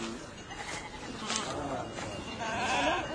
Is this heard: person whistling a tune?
no